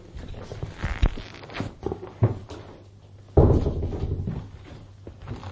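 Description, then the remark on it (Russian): A door is handled and swung shut with a solid thud partway through, followed by a brief rumbling tail, with a few lighter knocks and shuffles before it. No one speaks. “Вы хотите закрыть дверь?”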